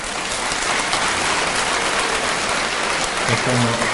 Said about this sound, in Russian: Слышите, да, все хлопают.